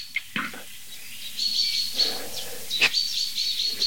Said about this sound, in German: Weil es kann auch ähnlich intensiv klingen, wenn ein Marder am Nest ist, also die, da würde ich jetzt bei dieser speziellen Situation, Buchfink warnt am Nest, nicht so sehr zwischen Luft- und Bodenfeind unterscheiden, wenn es ums Nest geht, ja.